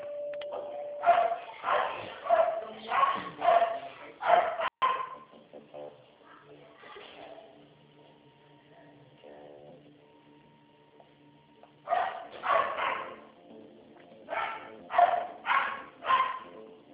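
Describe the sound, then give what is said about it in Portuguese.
A dog barks in quick, repeated bursts, fairly loud, then falls quiet for several seconds before another run of sharp barks starts up. “Boca, cachorro.”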